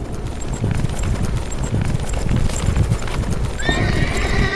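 Horse hooves clip-clop steadily for several seconds, then a loud, high whinny rings out over the hoofbeats near the end: Husein's horse returning alone to the camp.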